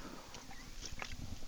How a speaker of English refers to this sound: Especially the cherry Coca-Cola Zero is the greatest. It tastes like it has all the crap in it, but it doesn't. No fat, no carbs, no sugars. No calories. Amazing. Let me take a sip.